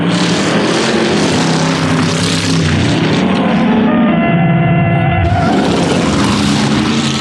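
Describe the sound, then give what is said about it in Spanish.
Loud, roaring engines race at high speed in a chase, an eight-cylinder car pursuing a single-cylinder vehicle: a dense steady drone with a whining tone that surges through the middle before the full roar returns. No voices. “Llevas 8 cilindros en este motor y él... Solamente uno, pero...”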